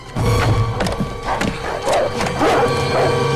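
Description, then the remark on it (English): Dogs chewing through wooden doors: loud, continuous gnawing with repeated sharp cracks and splintering of wood, with no voices. “More dogs chew through the doors and rush in.”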